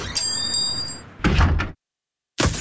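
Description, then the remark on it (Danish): A stone chip strikes a car windscreen with a loud, heavy crack-and-thud lasting about half a second, after faint high ringing tones; a brief silence follows before another loud burst begins. “Et stenislag!”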